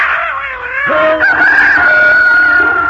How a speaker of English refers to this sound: The cat spit and scratched the robber, and the dog barked and bit his leg, and the rooster crowed and pecked his ears, and the donkey brayed and kicked him out of the door.